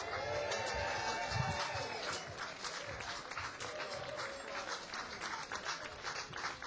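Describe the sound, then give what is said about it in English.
An audience breaks into sustained applause as a Grammy Award-winning musician is welcomed onto the stage, a dense wash of many hands clapping at steady loudness throughout, with faint cheering voices mixed underneath. “Put your hands together for”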